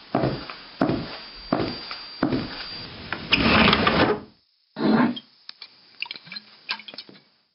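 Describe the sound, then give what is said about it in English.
A wooden desk drawer scrapes and rattles as it is pulled open, followed by a brief pause, a thump, and a few light clinks as a bottle is lifted out. No one speaks. “There's a bottle in the desk drawer over there”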